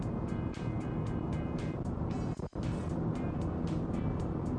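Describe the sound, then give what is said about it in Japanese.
A steady, loud road drone of cars on the move, heard while driving in a car on a road without traffic lights during the Obon holiday season, Thursday 14 August at 9:51. Deep rumbling noise with faint rhythmic whooshes repeating every fraction of a second, and one brief dip midway. No one speaks. “しかしまああれだね、ウインカーの音もまず俺が追い越し車線を使わないから、ウインカーの音も聞こえない、信号ないから止まろうともしないから、ずっと皆さんブーンっていう音しか聞こえないっていう事態ですよね。”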